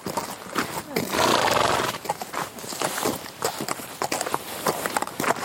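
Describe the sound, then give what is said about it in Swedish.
A horse whinnies loudly near the start, followed by steady clopping hooves and shuffling movement, with faint voices in the background, in a stable in Tingsryd, Småland, Sweden. “Nu tillbringar han mycket tid i stallet i Tingsryd, Småland, och helst då på hästryggen.”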